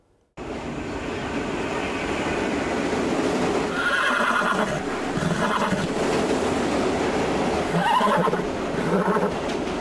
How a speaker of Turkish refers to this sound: Ahırdan firar eden yarış atı istasyona girdi. Treni bekleyen yolcular gözlerine inanamadı.